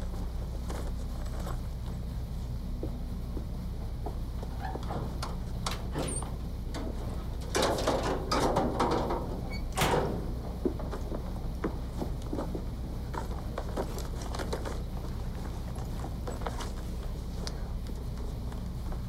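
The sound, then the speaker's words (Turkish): A cupboard door slides open in a dormitory, then a flurry of rustling and soft knocks as belongings from the cupboard and bed are stuffed into a bag, with a steady low hum underneath and no voices. “Dolapta yatakta nesi varsa çantasına topladı.”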